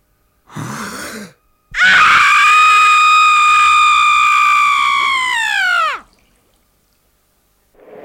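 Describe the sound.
A long, intense, loud scream performed as an imitation of a woman screaming while giving birth, held for about four seconds before its pitch sags away at the end, preceded by a brief breathy vocal burst.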